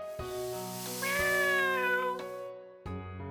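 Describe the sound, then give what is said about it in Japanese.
A cat lets out a long, drawn-out meow, fairly loud, its pitch wavering up and down before fading, followed by the start of another cry. No one speaks. “あ、猫。”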